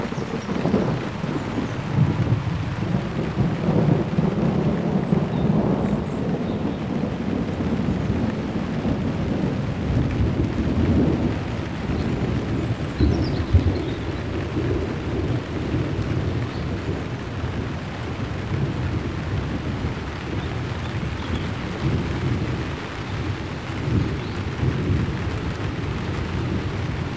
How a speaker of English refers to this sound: But here's another bonus bit of thunder, because there was just some lightning flash a moment ago.